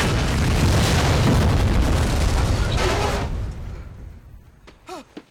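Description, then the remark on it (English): A massive explosion from a loaded bazooka fired from the shore at a boat roars out loud and broad, rumbling for about three seconds before fading, followed by a brief, faint, high wavering whine at the very end. “On the shore, Bien fires a loaded bazooka.”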